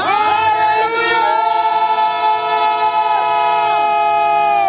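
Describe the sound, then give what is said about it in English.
Many voices shout together in one loud, sustained roar, their overlapping tones holding steady and occasionally sliding up or down, continuing without a break for several seconds. “Some of you, as you are shouting, certain infirmities in your body will be leaving.”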